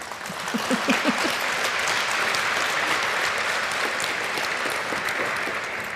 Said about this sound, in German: Also ein warmer Applaus bitte für Chris Köver und Alexandra Sowa.